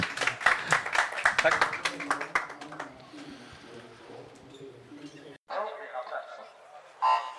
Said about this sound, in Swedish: Du får en liten applåd av publiken också.